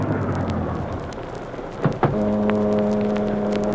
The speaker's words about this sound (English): a heavy mist had risen, and it swirled and eddied about the long black car, which, moving like a sinister shadow, finally came to a stop alongside a deserted waterfront building.